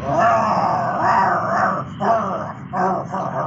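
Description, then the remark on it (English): Several angry dogs growl and snarl together in a loud, continuous rumble that swells and dips in short surges for a few seconds, with no talking. “Oh, sorry, there was a traffic jam and a pack of angry dogs there.”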